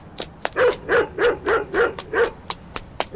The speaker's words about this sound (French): Les chiens me rattrapèrent rapidement.